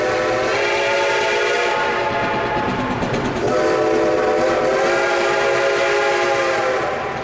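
A loud train whistle sounds nearly continuously for about seven seconds, briefly wavering in pitch midway, over the rumble of a train pulling away. No one speaks.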